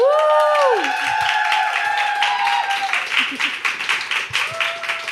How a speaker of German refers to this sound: Mach einen großen Applaus für Phoenix Kühnert!